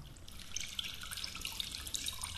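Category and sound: household object, running water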